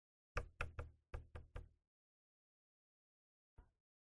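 Six firm knocks in a quick, steady burst, then about two seconds of silence before one last lone knock. Close and clear, with no voices.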